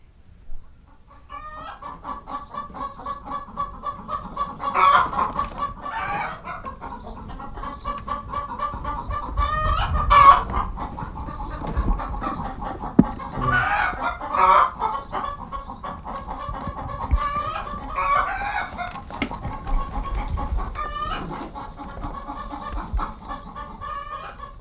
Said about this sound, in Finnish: Olihan tämä tuttua ääntä varsinkin maaseudun koululaisille, mutta meille kaikille, jotka olemme kesällä pistäytyneet kanalan puolella. Sillä kanathan siinä kotkottivat.